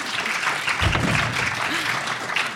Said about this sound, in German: dürfen ruhig schon mal klatschen, wenn jetzt alle kommen.